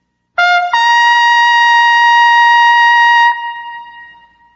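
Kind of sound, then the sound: sound effect, trumpet blast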